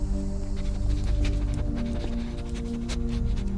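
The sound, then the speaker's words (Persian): A dog searches through a person's belongings during an inspection, with quick sniffs, pants and rustling scuffs over a steady low mechanical hum. Nobody speaks. “بهتر اون سگ وسایل منو به هم نریزه.”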